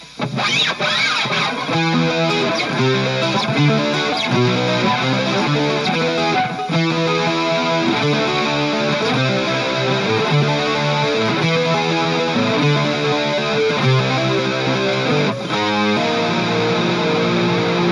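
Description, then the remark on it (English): Heavily distorted electric guitar plays loud, continuous chords in a steady rhythmic pattern with thick sustained tone and some feedback, filling the whole stretch without any voices. “I think part of the issue is the distortion.”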